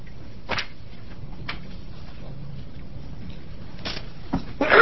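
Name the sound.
sneeze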